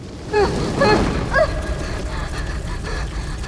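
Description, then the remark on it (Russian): A roaring, rushing blast of fire from a flamethrower volley bursts out and keeps up a steady whooshing rumble for a few seconds, with brief whistling tones flickering through it early on. “Девочка хотела сорваться и бежать, но огнеметный залп остановил ее.”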